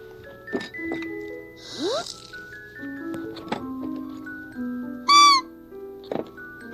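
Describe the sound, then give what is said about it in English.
A whistle imitates a crow's call: a string of reedy tonal notes, a quick rising slide, then a loud, buzzy caw-like blast near the end. No one speaks. “Still like the crow.”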